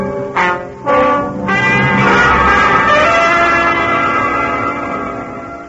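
A large bell tolls loudly, striking the hour, a few strikes in quick succession that merge into a long, rich ringing hum of layered overtones, slowly fading. No voices.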